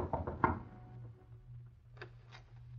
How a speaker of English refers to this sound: A short time later, Jack knocked on the door of Joe Banning's small apartment on Water Street.